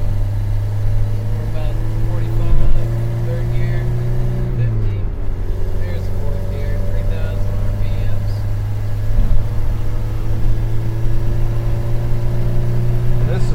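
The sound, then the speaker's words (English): A bright red car with a 4-speed transmission drones steadily at high RPM while getting onto highway 64 to reach highway speed, a loud, constant hum from inside the vehicle, with a brief dip in pitch partway through as if shifting gears. “Yeah, this car's got a 4-speed transmission, so to get up to a good highway speed, it'll be at a pretty high RPM.”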